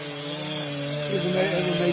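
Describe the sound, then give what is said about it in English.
Several chainsaws buzz steadily together, their engine tones stacking into a dense drone that swells slightly louder partway through, continuous for the whole stretch with no pauses. “A lot of chainsaws buzzing.”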